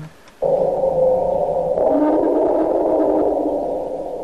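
An elephant's long, low rumbling lost call drones steadily for about four seconds, loud, its tone shifting and rising slightly partway through, with no voices present.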